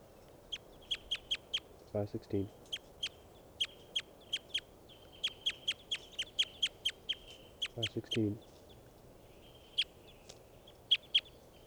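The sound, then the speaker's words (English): Bird calls ring out as a long series of short, sharp, high-pitched chirps in uneven bursts, broken twice by a lower, harsh, buzzy call, over a faint steady background hiss. “Recording this bird 516.”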